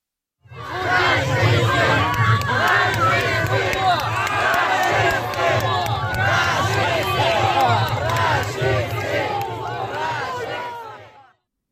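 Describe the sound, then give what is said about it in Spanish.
A crowd of protesters in Warsaw shouting angrily and continuously at Russian ambassador Sergei Andreev, yelling "fascist" and "murderer" while throwing red paint on him; many overlapping voices, loud and sustained for about eleven seconds. “Entretanto, en Varsovia, un grupo de manifestantes le echaban pintura roja al embajador de Putin, Sergei Andreev, mientras le gritaban fascista y asesino.”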